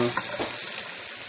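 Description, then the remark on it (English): Steady hiss of running water at a sink, with a brief soft clink of dishes near the start; moderately loud, no voices. “My hands are wet, so I can't check this exact moment. Oh, yay, I'm almost done with dishes.”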